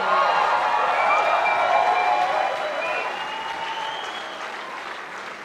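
A crowd applauds steadily with dense, crackling clapping and a few high whoops or cheers mixed in, the applause loud at first and slowly easing off toward the end.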